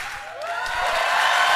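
A burst of loud, dense applause from a crowd, steady clapping that swells slightly louder over a couple of seconds, with a faint whoop mixed in.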